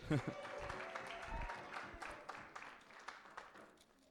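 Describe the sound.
An audience breaks into steady applause, a dense patter of many hands clapping together for several seconds at moderate volume, with a few voices mixed in underneath.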